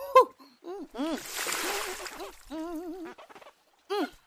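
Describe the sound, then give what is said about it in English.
A brief burst of splashing river water, like hands scooping and slapping it as someone washes their face, lasting a second or so, surrounded by a voice making short warbling, sing-song exclamations before, during and after. “Damn, my face is sticky. Better wash off.”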